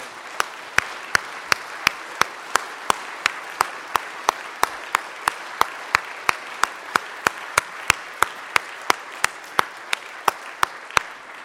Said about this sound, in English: So I thought, let's praise God together. Let's clap our hands, give thanks. Come on, everybody.